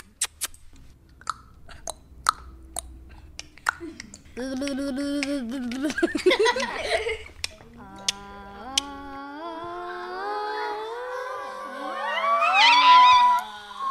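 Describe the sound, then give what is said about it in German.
A series of sharp, scattered clicks gives way to a voice making tonal sounds that slide steadily higher, ending in loud, high-pitched vocal squeaks, as schoolchildren in Frechen try out what their voices can do; no talking. “Am Ende war quietschen.”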